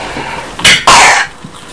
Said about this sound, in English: I'm glad your cough's gone. It's not gone.